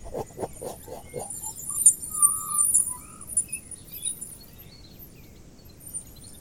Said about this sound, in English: There's some wood pigeons somewhere. I can hear them.